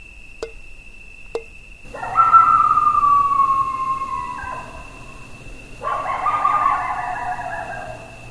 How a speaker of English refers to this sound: It is a cool evening, and the sun is setting on the horizon. Crickets and an occasional coyote howl break the quiet.